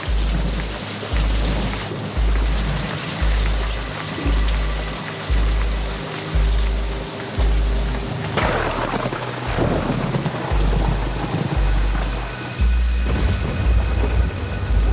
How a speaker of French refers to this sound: En quelques minutes, la petite pluie va se transformer en averse diluvienne.